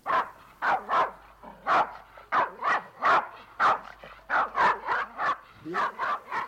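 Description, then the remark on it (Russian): A three-month-old puppy, newly bought at a pet market, yaps over and over, a dozen or so sharp, high-pitched barks in quick, uneven succession, fairly loud with little else around. “Николай Павлович совершил путешествие на птичий рынок, и в доме появилась собака.”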